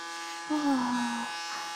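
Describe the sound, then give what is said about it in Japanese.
Electric hair clippers buzz steadily through the whole clip as the sides of the head are shaved, a constant harmonic hum, with a brief louder, falling vocal-like tone rising over it midway before the buzz settles again. “しっかり剃れましたね。”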